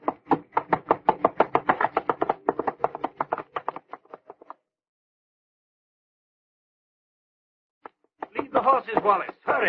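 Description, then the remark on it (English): Fast, rhythmic hoofbeats from galloping horses pound loudly, gradually thinning out and fading after a few seconds; a pause of silence follows before a voice starts up at the end. “Horses, Wallace. Hurry.”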